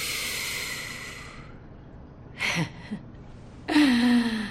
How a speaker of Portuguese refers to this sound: Ela acende um cigarro e dá um trago profundo.